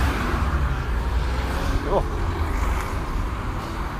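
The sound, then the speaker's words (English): Steady roar of busy lunchtime street traffic while someone crosses the road, a dense low rumble of passing vehicles that stays loud and constant throughout, with a brief faint voice briefly audible midway. “This traffic's insane.”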